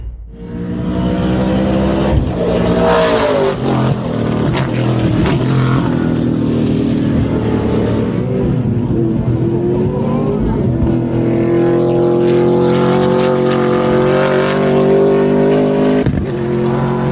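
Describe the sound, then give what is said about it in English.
A loud racing engine, still being tested, roars and revs, its pitch climbing and dipping through several throttle blips over a steady, throaty drone, with no voices present. “Of course, it's not the final version, still testing these engines, but just to give you a taste, this is what it sounded like.”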